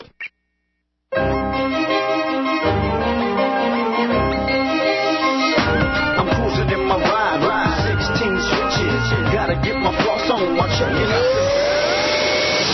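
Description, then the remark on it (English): After a brief silence, a loud Hoover Wind Tunnel 2 upright vacuum cleaner starts up and runs steadily, vacuuming carpet, its whining motor hum shifting in pitch as it works, with no one talking. “Hoover Wind Tunnel 2 Upright vacuums your carpets.”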